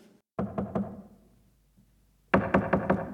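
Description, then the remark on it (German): Two quick sets of knocks on a wooden door at the top of a spiral staircase in a castle, about three to four raps each, separated by a pause of silence. The knocks are firm and resonant. “Herein?”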